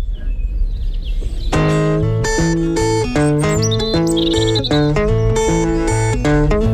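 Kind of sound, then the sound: bird, birds chirping and singing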